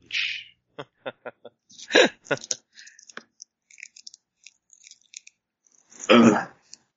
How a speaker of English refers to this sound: And whenever, hold on a second, I can't stop coughing.